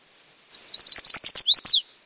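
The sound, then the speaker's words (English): A chestnut-sided warbler sings a quick run of about eight bright, high chirping notes at normal speed, ending in a louder, emphatic downslurred note. The song is clear, with no talking. “Got the chestnut-sided warbler.”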